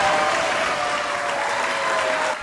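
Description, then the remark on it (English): A crowd applauds in a courtroom in Puerto Rico as the court declares a beach in Dorado a protected zone, a dense, steady wash of clapping that holds at full loudness throughout and begins fading at the very end. “As everyone applauds,”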